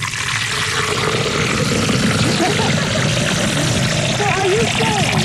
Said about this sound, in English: Look, let me pour that.